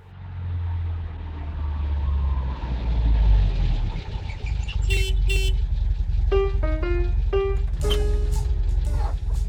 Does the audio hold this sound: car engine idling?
yes